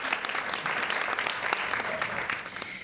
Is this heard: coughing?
no